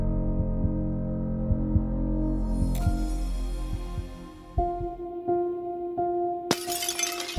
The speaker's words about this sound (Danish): Det smadrede glas fra ruden falder til gulvet med et klir